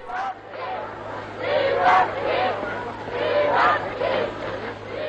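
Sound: crowd cheering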